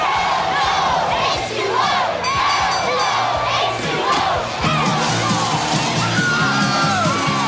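A loud, packed crowd in a bar yells and cheers continuously, overlapping voices whooping and bellowing together in a rowdy din that swells and stays dense throughout.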